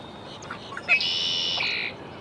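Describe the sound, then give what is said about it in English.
A red-winged blackbird sings at Sweetwater Wetlands Park, Gainesville, Florida: a few short clucking notes lead into a loud, buzzy, sustained trill lasting nearly a second, over faint background noise. “Red-winged blackbird, Sweetwater Wetlands Park, Gainesville, Florida.”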